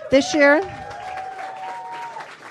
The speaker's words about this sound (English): Okay, you're going to have to keep clapping after every sentence because it gets better.